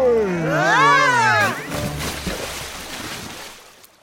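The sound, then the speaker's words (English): A voice sings a short, wavering melodic phrase, then soft, steady river water lapping and splashing takes over while drifting downstream on the Mississippi River, gradually fading toward the end. “It is a lovely day on the river.”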